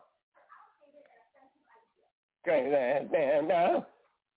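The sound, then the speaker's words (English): A dog lets out a loud, warbling bark-howl in two long bursts with a wavering, sing-song pitch, after a couple of seconds of faint, scattered sounds. “Who's that weird ass damn dog?”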